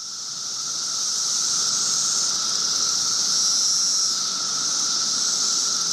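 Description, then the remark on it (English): A continuous, high-pitched electric buzz of cicadas emerging in spring drones steadily for the whole stretch, loud and unbroken with a faint shimmering swell, and no voices over it. “Cicadas, yes, they can be pretty loud.”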